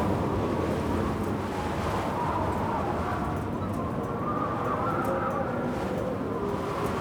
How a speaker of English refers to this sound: Andrew's winds damaged some of the park's visitor center. I recorded the sound of that storm at its worst. Whenever I listen to that tape, the roar of the wind gives me chills.